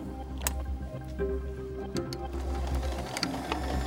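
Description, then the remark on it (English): A sewing machine, threaded by a man seated at it who lowers a lever, runs steadily as he sews, its motor humming low beneath a scattering of sharp mechanical clicks and ticks as it stitches through fabric, with no voices. “Ricky takes a seat before a sewing machine and pulls in his chair.”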